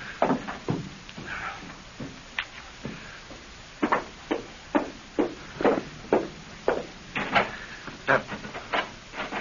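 Repeated sharp knocks and rattling from a stuck porch door being yanked and jiggled, coming in quick uneven bursts that grow more insistent, fairly loud with no talking.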